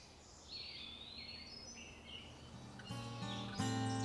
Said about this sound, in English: a Phoebe calls with a whiskey and cigarette roughened voice, rasping out its name, Frebir, like a broken blues man.